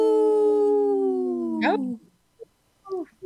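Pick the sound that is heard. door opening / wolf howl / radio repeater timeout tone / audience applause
wolf howl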